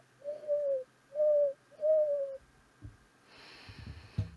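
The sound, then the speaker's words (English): A bird call sound effect: three clear, low hooting coos in an even rhythm, each slightly falling in pitch, followed by some faint rustling and clatter. No one speaks. “Hit the bird again.”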